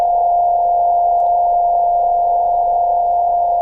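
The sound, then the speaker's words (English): A loud, steady radio beep tone, a signal picked up at 5 meters at a 100-megabit setting, drones without a break for the whole clip, like a held Morse key, over a faint hiss of background noise. No one speaks. “So every time a radio amateur has a device that can produce a beep, he will just try to send Morse code with it, right?”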